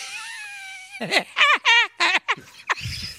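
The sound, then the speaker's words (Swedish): A voice imitates Woody Woodpecker's laugh, breathing out until almost no air is left: a quick run of about six loud, warbling, staccato bursts, ending abruptly with a breathy rustle. “jag hade en kille i klassen som kunde härma Hacke Hackspett.”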